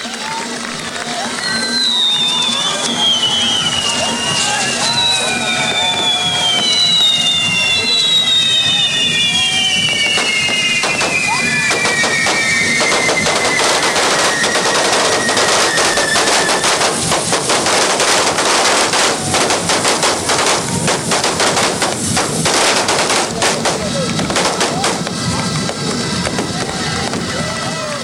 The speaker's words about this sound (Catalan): I en aquell moment es dispara un gran castell de foc.